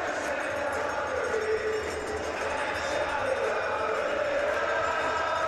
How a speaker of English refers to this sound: The crowd singing a Believe anthem.